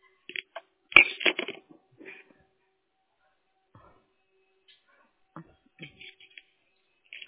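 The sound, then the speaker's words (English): Irregular rustling and clattering bursts as someone on a phone call rummages through papers and objects to find some paper, with a loud clunk early on, then scattered quieter shuffles and pauses. “Oh, hold on. I got to find some paper.”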